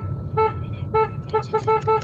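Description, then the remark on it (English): A car horn honks in short, bright, perky beeps: two separated toots, then a quicker run of four, loud over a low engine rumble. “nice little perky beep, beep, beep there from Lisa this afternoon”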